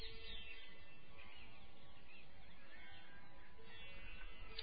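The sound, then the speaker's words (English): Birds call and chirp continuously over a dense, steady outdoor background hum, their high twittering blending into the ambience rather than standing out sharply. No one speaks. “The birds,”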